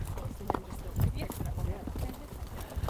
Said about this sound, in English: I tuck my recording gear into my saddlebags and get on a big brown and white horse named Jack